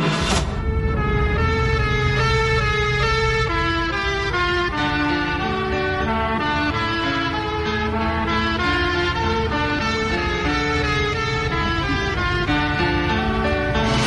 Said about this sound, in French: Ouvrez fenêtre et écoutez sirène de voiture de police inspirée d'une de mes compositions.